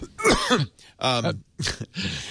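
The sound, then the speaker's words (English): A loud coughing fit: four harsh, raspy bursts in quick succession, mixing rough coughs with gravelly throat clearing, each separated by a brief pause. “Well, so, and excuse me, alert the media. I'm having a coughing fit.”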